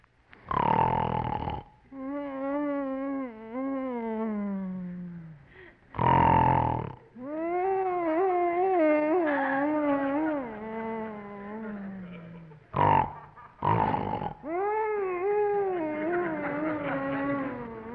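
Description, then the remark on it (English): In a scene from The Bickersons, a husband snores loudly in his sleep in the dark, suffering 'woodchopper's syndrome': harsh, rasping snorts on each inhale alternate with long, wavering, whistling whines on the exhale, repeating in an uneven rhythm with no talking. “Whining and giggling and grunting and snorting is driving me crazy.”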